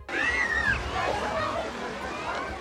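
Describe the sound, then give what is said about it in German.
Water splashing and sloshing continuously in a swimming pool, with lively, high-pitched voices of children playing shouting and chattering over it, a steady busy pool din lasting a few seconds. “Die spielenden Kinder stehen für die Zahl 2.”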